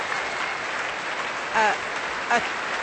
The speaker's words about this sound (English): Applause there for Mark Evans, who is the choir director of the National Youth Choir of Scotland.